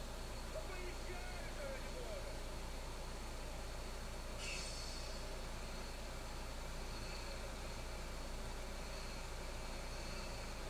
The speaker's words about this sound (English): What is this truck right there waiting on?